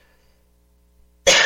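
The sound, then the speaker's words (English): A single loud cough bursts out sharply after a stretch of near silence, harsh and breathy, lasting a moment at the very end; the cough comes from an ice cream sensitivity. “Probably wondering why I had this cough.”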